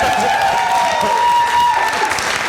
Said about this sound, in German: Wenn man dafür schon Applaus kriegt, das natürlich.